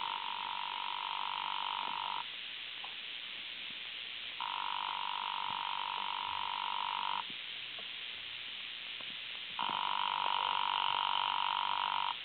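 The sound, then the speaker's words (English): A telephone rings unanswered in hotel room 304, three times, each long buzzing trill lasting a couple of seconds and separated by steady pauses, sounding thin and slightly muffled, as if heard down a phone line, with no voices. “There doesn't seem to be any answer.”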